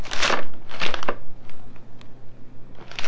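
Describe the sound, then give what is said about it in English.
Paper rips and crinkles in a few quick bursts, two strong tears early on, then softer rustling and another tear at the end, as wrapping paper is pulled off a child's present, a lunchbox. “Open the present. Get all the paper off.”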